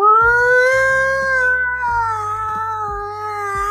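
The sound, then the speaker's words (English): Members of a crowd imitate a fire truck siren during a rapper's verse, a reference to Showtime at the Apollo, holding one loud, continuous wail for nearly four seconds with a gentle wavering rise and fall in pitch. A low, stepped hum runs underneath. “but midway through my verse, I hear members of this crowd start to make an annoying fire truck-like sound, like this.”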